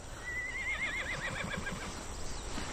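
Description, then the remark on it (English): A horse plowing land neighs once in a long, wavering whinny that rises and trembles before fading, over a low outdoor rumble. “Through a window, Marty peers at a horse and Clark plowing land.”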